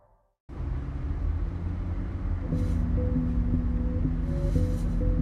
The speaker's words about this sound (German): Ein Kleinbus fährt durch Köln. Das Auto ist fast voll besetzt.